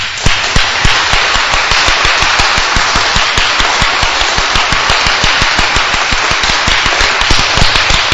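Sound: audience clapping loudly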